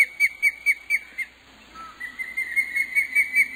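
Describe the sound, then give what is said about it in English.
An osprey gives a series of sharp, high-pitched whistling chirps in quick rhythmic bursts, pausing briefly before repeating. Clear, with no talking. “To this observer, the sound is startling, something that should come from a small land bird, not a majestic fish hawk just returned from South America to its breeding site.”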